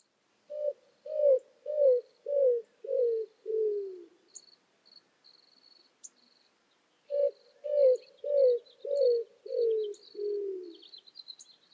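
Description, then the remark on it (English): Two runs of about six low, mournful coos from a male roadrunner, each series stepping downward in pitch, clear, over a steady high insect trill in the background. “The one we hear most often is a sort of cooing, made by the male only, and it goes like this.”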